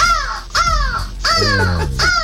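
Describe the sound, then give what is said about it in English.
A woman's voice imitates a crow, giving four loud, harsh caws in a steady, slightly uneven rhythm, clear with no other talking. “Crow.”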